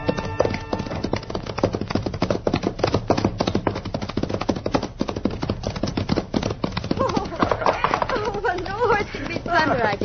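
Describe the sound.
Horse hooves, including those of a sorrel horse, clip-clop in a steady, rapid rhythm throughout, fairly loud, with people talking over the hoofbeats toward the end.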